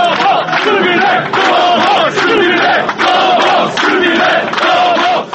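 A large crowd in Serbia chants in unison at an election victory celebration, loud and sustained, with voices rising and falling in a steady rhythm of repeated phrases broken by brief pauses.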